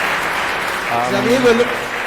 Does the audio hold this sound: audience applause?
yes